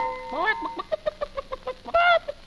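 Chickens cluck in a quick, steady series of short clucks, opening with a rising squawk and ending with a louder, drawn-out squawk before a final cluck.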